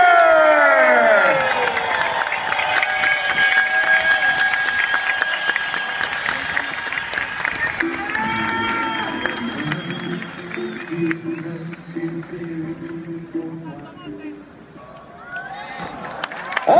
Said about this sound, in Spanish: Fuerte el aplauso para Orlando Duque.